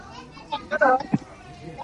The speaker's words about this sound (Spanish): La salida del autobús, hemos escuchado gritos